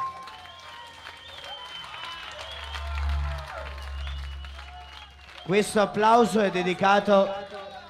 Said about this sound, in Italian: Allora ragazzi, per ringraziare colui che vi ha fatto divertire tutta la notte, volevo sentire un applauso questa volta molto forte Insomnia.